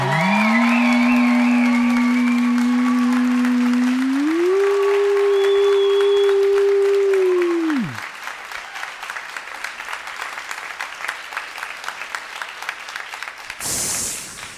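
A live crowd claps steadily for a contestant, the aquarium club and the fire brigade, while a loud sustained low tone drones over the first half and then cuts off. The applause continues alone afterward, thinning slightly before a brief louder burst at the end.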